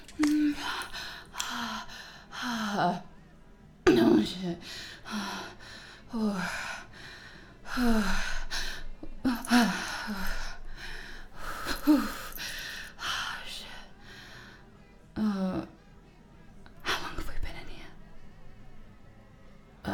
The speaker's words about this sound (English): The heavy breathing. It was a panic attack.